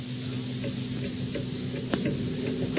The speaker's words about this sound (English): Day in and day out, listening to the ticking of the clock.